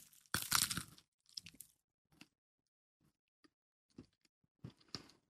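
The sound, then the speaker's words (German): A loud crunchy bite into a macaron from a pop-up bakery, followed by several softer, scattered crunches and crackles of chewing, with no talking. “Und jetzt dürfen wir da mal reinbeißen?”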